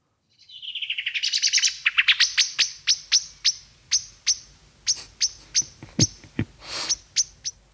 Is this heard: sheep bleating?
no